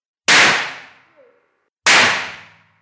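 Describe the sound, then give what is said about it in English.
Two sharp, loud explosive cracks as colourless, oily nitroglycerine detonates when struck by a hammer, about a second and a half apart. Each bang hits instantly and rings down over most of a second, with no talking. “What happened then was a process called detonation, and it proceeds through a shockwave.”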